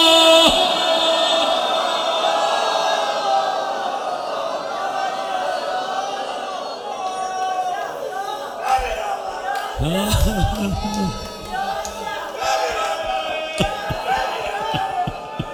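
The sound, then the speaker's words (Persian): A large crowd of voices shouts the religious chant "Ya Zahra" repeatedly in loud, sustained unison, with swelling bursts of cries and a few low thuds partway through. “چند بار فریاد بزن یا زهرا.”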